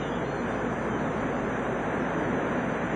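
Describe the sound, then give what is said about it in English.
A steady roar of ocean surf breaking against a rocky shore, dense churning water noise that fills the whole moment without pause, with no voices present. “The sea star, starfish, on the other hand, is able to survive this rugged world of crashing waves and swirling tide by clinging to a rock with its hundreds of tiny sucking tube feet.”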